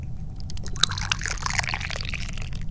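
Dahong Pao tea pouring steadily into a cup, with a bright trickling splash and small drips over a low rumbling background, no one talking.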